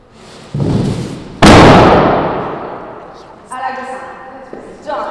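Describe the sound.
In a large white room at the Beeler Gallery, a group of women tear down a wall panel for the dance performance On Borders; it crashes onto the cement floor with a loud, booming slam that echoes, preceded by a brief rumble; voices follow afterward.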